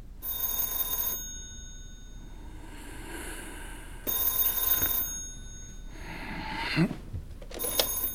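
A telephone rings at night, waking a doctor, in repeated bursts, its bright metallic bell clattering for about a second each time with short pauses between, fairly loud with no one talking.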